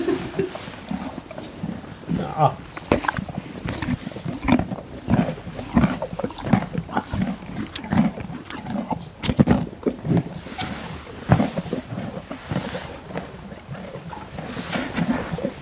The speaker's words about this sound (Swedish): matandes hästar med morötter, äpplen och annat godis så lämnar vi Stora Ekeby.